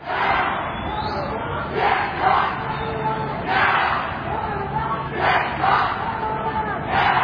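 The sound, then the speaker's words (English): A loud crowd of street protesters in St. Paul, outside the state fair, chants and yells together, 'pigs in a blanket, fry them like bacon', their massed voices rising in rhythmic bursts roughly every second or so over a steady roar. “Protesters took to the streets Saturday in St. Paul outside of the state fair, yelling, quote, pigs in a blanket, fry them like bacon, end quote.”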